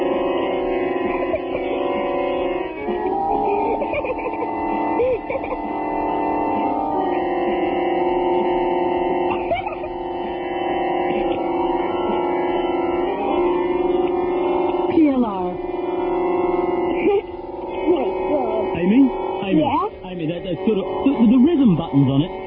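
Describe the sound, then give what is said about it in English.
An electronic keyboard plays its built-in demo tune after a dog presses its music button, a busy, steady synthesized melody with accompaniment running without pause for over twenty seconds, fairly loud and slightly tinny. “He just pressed the music button.”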